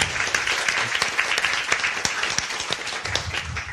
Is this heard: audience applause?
yes